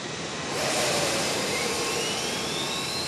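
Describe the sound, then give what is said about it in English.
A loud, steady roar of four jet engines, two on each wing, surges up to full power within the first half second while the brakes hold the aircraft still, then holds as a dense, continuous blast with a faint rising whine. “With that, Sparks could feel Harry Carey jolt as the four engines, two on each wing, came up to full power.”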